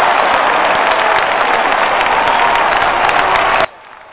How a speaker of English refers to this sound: My goodness, a great round of applause.